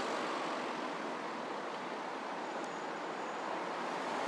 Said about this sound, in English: So I'm waiting now. Traffic going past, as you can hear, waiting for the bus to hopefully appear at some point. Not many pedestrians out at all from what I can hear. And only fairly light traffic.